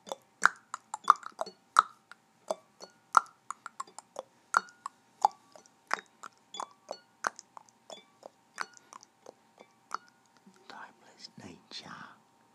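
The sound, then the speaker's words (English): Crisp clicks tick along at a fairly steady, slightly uneven pace, apparently made with the mouth to mimic a clock, before trailing into soft breathy whispering near the end. “A tick, a tock, goes the clock.”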